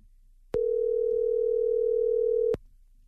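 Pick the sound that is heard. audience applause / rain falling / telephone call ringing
telephone call ringing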